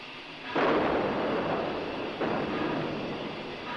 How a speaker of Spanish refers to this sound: Al fondo se oyen los cañonazos del frente.